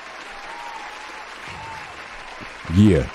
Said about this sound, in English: So I'm going to give them applause because they never do this in the draft.